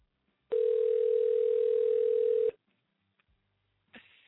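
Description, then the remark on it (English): A phone line's ringback tone on an outgoing call placed live on air to a man called Tonto, who does not answer: one steady two-second ring at a low, buzzing pitch, then silence before the next ring starts at the very end. “Tonto, answer the phone.”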